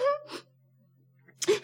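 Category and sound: human body sound, crying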